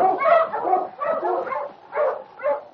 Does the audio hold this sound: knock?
no